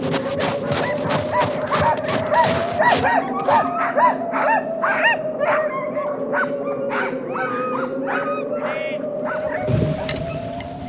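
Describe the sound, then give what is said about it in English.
A pack of sled dogs, a dog sled team ready to take vaccine to Fort Vermilion, barks and yips excitedly, overlapping calls coming thick and fast at first, then thinning into scattered yelps and whines over a steady droning tone. “Doctor, the dog sled team is ready to take the vaccine the rest of the way to Fort Vermilion.”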